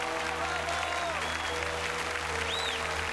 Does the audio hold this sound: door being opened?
no